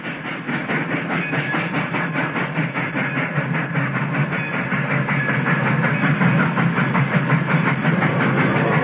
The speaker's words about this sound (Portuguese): Olha, está chegando o trem